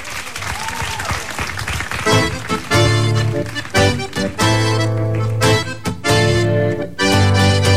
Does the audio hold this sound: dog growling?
no